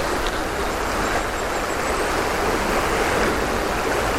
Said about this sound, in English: And it's good because there's lots of swirly water underneath.